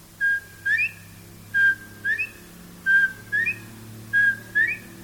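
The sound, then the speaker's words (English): A bobwhite quail, in a stand of pine trees beside pastures behind a house, calls four times, each a clear two-note whistle ending in a sharp upward slur, evenly spaced, with only a low steady hum behind it. “I always like to stroll out behind the house, and there's a big stand of pine trees, and between the pine trees and the pastures, a bobwhite quail used to like to hang out.”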